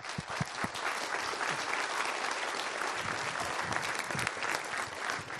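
A crowd applauds steadily for several seconds for the people who did the sound and costumes, a dense, continuous wash of clapping at an even, moderately loud level.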